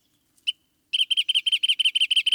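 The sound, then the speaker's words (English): A wrentit, a long-tailed brown bird of coastal chaparral, sings its bouncing ball song: a single opening note, then a rapid, accelerating series of about a dozen bright, clear notes, loud with no other sounds. “We're listening to the bouncing ball song of one such special bird, the wren-tit.”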